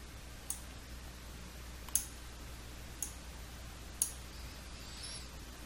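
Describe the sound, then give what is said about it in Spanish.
Four sharp, short mouse clicks spaced about a second apart, crisp and bright against a low steady background hum, with no talking, made while clicking in Server Manager to promote a machine to a domain controller. “Hacemos clic en promover esta máquina controlador de dominio.”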